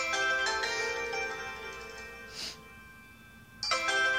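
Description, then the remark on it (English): A phone ringtone preview from the ringtone sound set in the phone's Personalize settings, with tones such as Ultramarina, chimes with bright, sustained melodic tones, fades out, then a short swish sounds before a new tone sequence starts abruptly near the end, fairly clear. “So, let's go into ringtone. Sound set. And see if we can change our ringtone.”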